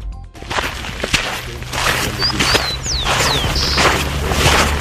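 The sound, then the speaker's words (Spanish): Footsteps crunch and clack over loose stones on the dry bed of the Ligua River in Petorca province, Valparaíso region, Chile, in an irregular rhythm, with a steady low rumble underneath and a few thin, high bird chirps partway through. “Así suena el río Ligua en la provincia de Petorca, región de Valparaíso. Suena a piedras, porque está seco.”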